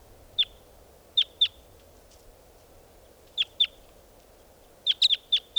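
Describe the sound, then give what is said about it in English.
Decoy birds give short, sharp, high-pitched chirps, first singly and in pairs with pauses between, then a quick run of four or five, over a low, steady background rumble. “These are the calls of the decoys.”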